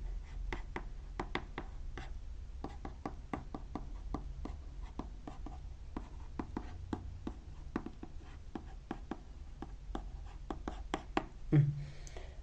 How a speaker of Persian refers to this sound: حالا توضیح میدم توی این جلسه عدم تمرکز در زندگی خود. این کلمه کلیدیش هم بنویسم این جمله.